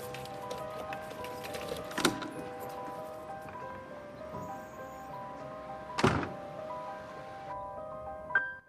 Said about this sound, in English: She unlocks her front door.